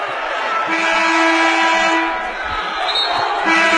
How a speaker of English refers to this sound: I heard that whistle. I thought she might have gotten a charge.